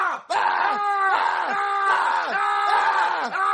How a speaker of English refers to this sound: what's all that yelling from Jeffy's room?